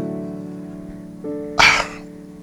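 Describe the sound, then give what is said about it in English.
One sharp, loud sneeze bursts out from the audience partway through a church service on resurrection morning, over a steady held organ-like chord that hums underneath. Nobody speaks. “God bless you.”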